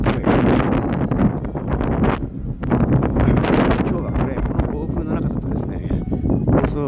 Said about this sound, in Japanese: ちょっと今風が春風というにはちょっと湿っぽい、まあ、梅雨の雰囲気はもう感じるような。